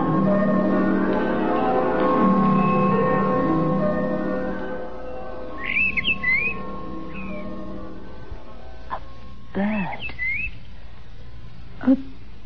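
A bird gives a few short, high chirps after a sustained ringing, humming tone fades out, followed by faint scattered clicks and a final brief note.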